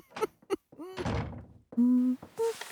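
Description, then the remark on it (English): A couple of hollow knocks on a wooden door, followed by a heavier thud, then brief tonal, voice-like sounds afterward. “Knock, knock.”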